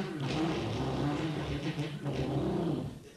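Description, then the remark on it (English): A voice imitates a car engine revving, a loud, growling rumble that rises and falls in pitch for about three seconds without a break. “We got more girls with that car because girls love the sound of...”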